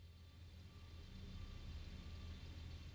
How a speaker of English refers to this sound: Oh, it might get a little loud in here. The pump truck is here.